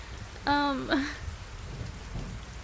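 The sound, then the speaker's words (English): Steady rain hisses throughout, with a low rumble underneath suggesting a storm. About half a second in, a brief, clear, high-pitched call rises twice above it. “I could just stand at your patio door for hours just listening to the storm.”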